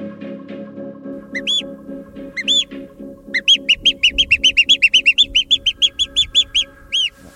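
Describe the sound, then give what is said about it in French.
Someone whistles a bird call: a few separate chirps, then a quick run of about fifteen bright, rising tweets, fairly loud over a steady low drone. “En fait, quand je siffle un oiseau, c'est que je me retrouve dans la même position que quand j'avais 7 ou 8 ans et que j'ai commencé à le faire.”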